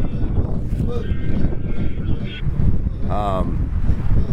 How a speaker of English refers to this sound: Right now it's kind of windy today,